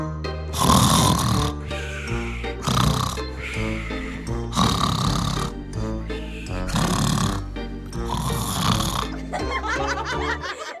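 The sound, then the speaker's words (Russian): A man lying in bed snores loudly in a steady rhythm as if in the deepest sleep, about six drawn-out rasping snores, apparently voiced as an imitation, with a faint musical hum beneath. “Затем лег он в постель, полежал немного и начал храпеть, будто спит самым глубоким сном.”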